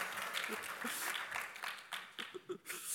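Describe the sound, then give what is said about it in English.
An audience breaks into steady applause, a dense crackle of many hands clapping throughout, with a few scattered voices and whoops rising through it, after the speaker announces that a third baby, a boy, is expected in November. “See, I expect more applause for that one. There you go.”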